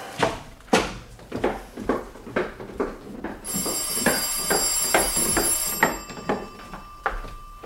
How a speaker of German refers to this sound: Das Telefon.